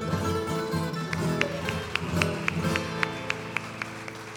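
Audience applause for a singer in a steady rhythm of sharp, evenly spaced claps, moderately loud, over a sustained tonal hum in the background.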